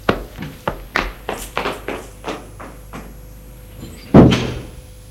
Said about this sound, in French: Tout à coup, ils ont entendu des clés dans la serrure. Ce doit être ton père. La porte s'est ouverte.